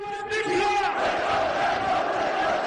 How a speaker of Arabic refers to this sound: وبالتزامن مع استعدادات اليمن لإحياء ذكرى المولد النبوي الشريف، أتت مليونيته في الأسبوع 48 من العدوان الصهيوني الأمريكي على غزة تحت شعار مولد نبي الهدى، دعوة لنصرة غزة والأقصى، شعار عبرت عن دلالاته هتافات ورسائل الحشود المشاركة وبيانها الجماهيري.